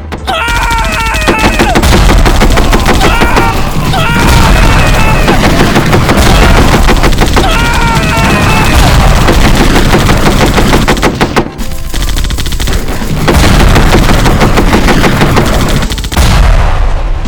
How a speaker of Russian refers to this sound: Но он достал автомат, вот гад. Послушались выстрелы, чьи-то вопли.